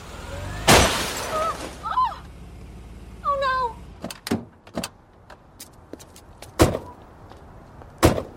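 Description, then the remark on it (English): A loud crash of a car being struck with glass shattering, followed by a couple of wavering cries and then a scattered series of sharp cracks and clatters. “just hit my car.”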